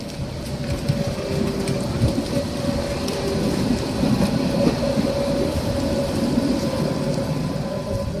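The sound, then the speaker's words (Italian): Yellow trams with trailers rumble steadily along their rails across the board-covered Alexanderplatz in Berlin, a thin metallic squeal riding over the low, continuous clatter for several seconds, even in loudness, with no voices. “Cigolano i tram, gialli coi rimorchi attraverso l'Alexanderplatz ricoperta di tavole.”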